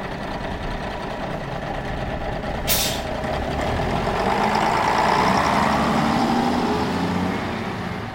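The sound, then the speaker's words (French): A large green bus's engine rumbles steadily in Homs, Syria, as a man boards it to go to the countryside north of the city. Early on there is one short, sharp hiss of air brakes, then the motor swells a little louder. No one speaks. “Sarout grimpe dans un bus vert qui l'emmène à la campagne, au nord de la ville”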